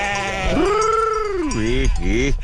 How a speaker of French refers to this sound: Voilà, là je suis en train d'appeler le troupeau.